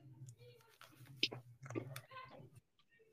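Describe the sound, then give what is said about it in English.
Wet slurping of a soda by a man, with crunchy mouth clicks and smacks in irregular bursts, fading out near the end, over a low muffled voice. “He's slurping a soda too.”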